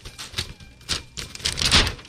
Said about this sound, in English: I do love how it looks like an actual printer. You're like, it sounds like a printer. It sounds like a 3D printer. Yeah. This thing has got whirring and clicking and buzzing.